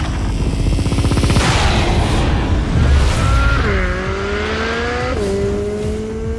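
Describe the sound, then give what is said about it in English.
A black minivan's engine roars loudly as it speeds through afternoon traffic on 15th Street near the Washington Monument in Washington, then its tires let out two long, high-pitched screeches a second or so apart as it takes a corner at speed, weaving between cars. “Suddenly, a black minivan screams around a corner, weaving through the tight openings between the masked cars.”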